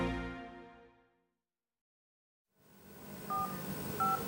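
Two short telephone keypad tones beep about a second apart over a soft background hiss, following a fading tone and a brief silence, as a man makes a phone call to a friend.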